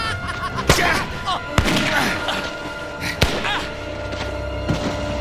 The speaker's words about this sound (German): Die Schüsse peitschten durch die Nacht und der Körper des Mörders wurde nach vorne geschleudert.